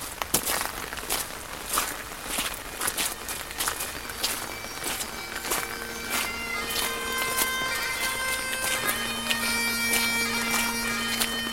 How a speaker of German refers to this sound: Kies knirscht unter unseren Schritten, Regen prasselt auf die Schirme.